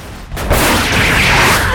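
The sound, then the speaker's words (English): Loud, dense gunfire roars almost continuously after a brief lull as fighters and guards shoot at each other in a corridor, the shots blurring into a sustained rattling barrage with heavy booming low end, echoing. “Logan fires at a guard.”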